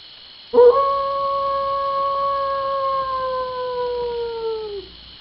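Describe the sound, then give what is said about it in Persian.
A wolf, one of two hungry, wild wolves lying in a dry, barren desert, lets out one long, steady howl that holds its pitch for about four seconds, then slowly sinks and fades out. It sounds clear, with no other voices. “اما کمی آن سوتر در بیابانی خشک و بی‌آب و علف، دو عدد گرگ گرسنه و وحشی و خیلی خطرناک و غل همی خسپیده بودند.”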